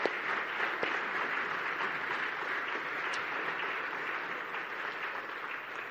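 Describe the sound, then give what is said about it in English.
An audience at St. Paul Road applauds steadily for several seconds to welcome new members, a dense, even wash of many hands clapping at a fairly constant moderate level with no voices on top. “We'll give them a little round of applause as well, because we're very informal.”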